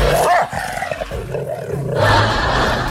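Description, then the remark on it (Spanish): An angry dog growls continuously, fairly loud, a rough rumbling snarl that swells and grows harsher in the final second, with no talking over it. “Bájele la radio ahí al perro, por favor. Se enoja el perro.”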